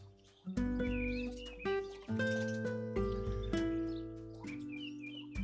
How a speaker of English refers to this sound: The garden this morning is alive with birds, more birds, and a few more birds. It's really peaceful.